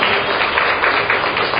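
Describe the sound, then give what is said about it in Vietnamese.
An audience applauds loudly, a dense, steady wash of many hands clapping that holds at an even level for the whole short stretch, with no voices standing out. “Rồi, trong một tràng vỗ tay đi thưa anh chị em, to lên.”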